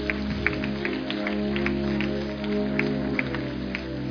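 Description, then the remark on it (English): A crowd claps steadily together for several seconds as a clap offering to the Lord, a dense wash of hand claps with sustained musical tones humming underneath, moderately loud. “Give the Lord a clap offering, somebody.”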